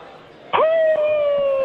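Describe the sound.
A person imitates a howl with one long, loud, steady-pitched voiced note that begins abruptly after a brief quiet moment and holds without breaking, over faint background murmur.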